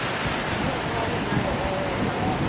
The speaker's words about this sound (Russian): Ну, волны какие-то. Да.